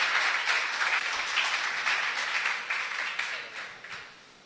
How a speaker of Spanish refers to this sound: Entonces vamos a dar un aplauso fuerte esta mañana y a exponer nuestro corazón.